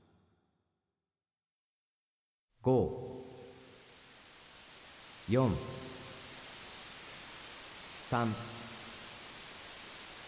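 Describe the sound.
A steady white-noise hiss for a guided relaxation exercise starts abruptly after a moment of silence and runs unbroken to the end, while a calm voice speaks three short words slowly over it, counting down numbers.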